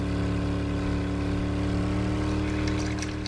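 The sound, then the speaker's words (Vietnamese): A motorboat engine drones steadily and loudly as the boat slowly comes in to a dock, its low harmonic hum constant throughout, with faint splashing and hiss of water above it as it nears. “Khi cả ba còn đứng đó để lắng nghe, thì tiếng máy đã đến gần hơn và mọi người thấy bóng một chiếc xuồng máy từ từ vào bến.”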